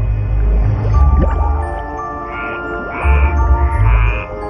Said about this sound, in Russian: Лягушка прыгает в воду.